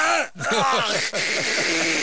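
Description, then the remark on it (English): A man's voice imitates a dog hacking and retching as it works up vomit: a rapid string of about eight loud, strained, throaty heaves, rhythmic and harsh, broken by two brief pauses for breath. “It's like the guy's trying to hawk the loogie, but there's no loogie.”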